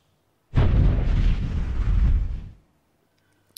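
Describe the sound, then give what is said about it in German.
A sudden loud volcanic explosion in an animation, showing diamonds carried by a magma bubble from the lower mantle through the Earth's crust and thrown upward, erupts with a deep, rumbling roar that lasts about two seconds before cutting off abruptly into silence, with no voices present. “In der Animation sehen wir jetzt, wie die Diamanten von einer Magmablase aus dem unteren Erdmantel mitgenommen, durch die Erdkruste transportiert und schließlich in einer vulkanischen Explosion nach oben geschleudert werden.”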